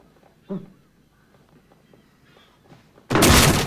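door being broken down

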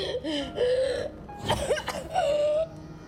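gasping

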